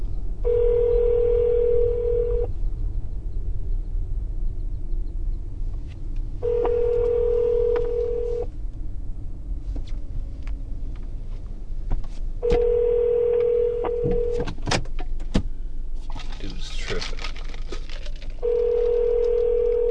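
An outgoing phone call rings on the line: four steady ringback tones, each about two seconds long with gaps of roughly four seconds between them, over low background rumble and a few faint clicks.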